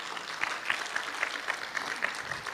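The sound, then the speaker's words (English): Soft, scattered applause from a crowd, light polite clapping like a golf clap, steady and fairly quiet for a couple of seconds with no one speaking. “I feel like we're at the golf course today. Y'all give me a golf clap.”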